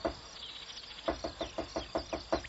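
A woodpecker that has climbed onto a ladder pecks at its wood: after a short quiet lead-in, about eight crisp, evenly spaced taps in a quick steady rhythm, moderately loud.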